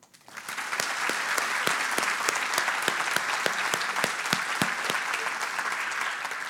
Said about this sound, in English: All right, we will let all of our graduates smile and look nice and pretty for some pictures, and we'll give them one more big round of applause.